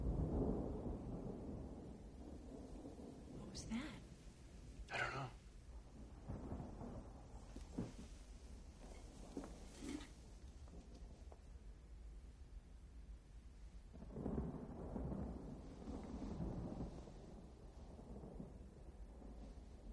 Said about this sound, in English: What is that? What's going on? It's rain. Real rain? Yeah.